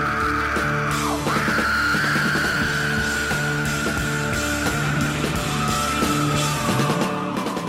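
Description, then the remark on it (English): A man lets out a long, sustained scream over loud, dense rock music with pounding drums and distorted guitars, the raw yell holding steady for several seconds near the front of the mix. “comes in screaming just after the whisper of the title of the song, and you're not even sure the first time you hear it was even said.”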